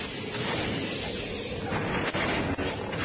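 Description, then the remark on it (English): Concussion arrows fired by Issa warriors exploding on impact, a loud, dense, rumbling barrage of blasts that roars almost continuously, broken only by a couple of brief dips near the end. No one speaks. “For primitives using concussion arrows, these guys have pretty good aim.”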